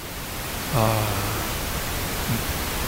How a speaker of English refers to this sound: Okay. Now center stage. Our main attraction is pink noise. Here's pink noise.